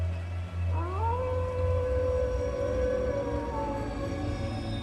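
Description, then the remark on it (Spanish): Street dogs howl in the distance at night in the Gustavo A. Madero borough of Mexico City, a long drawn-out cry that rises sharply and then holds steady for several seconds, set against a constant low rumble of traffic. “Todavía levanto la basura bajo la luz de los postes que parpadean y el sonido lejano de los perros callejeros.”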